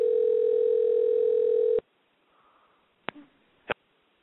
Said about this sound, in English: Sorry, the line didn't seem like it was open. Okay. I heard a phone ring. Yeah. That was it. Yeah, so did I.